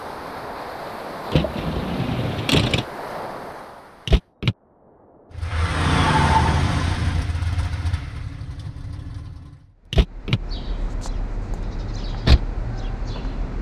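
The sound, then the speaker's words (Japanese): A car with no talking, driving to a restaurant about 12 minutes away: a few sharp clicks and thumps like doors or controls, then a steady whirring stretch, followed by a low, continuous engine rumble with occasional ticks. “ここから車で12分ほどで到着します。”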